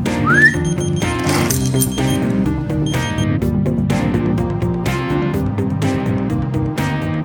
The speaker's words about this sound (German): Sind die Schlüssel wieder mal verschwunden, müssen Sie nur kurz pfeifen.